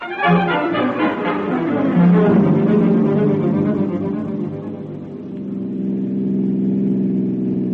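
A car engine runs steadily and fairly loud throughout, a low droning hum that shifts pitch slightly as if the vehicle is driving and changing speed, with no voices.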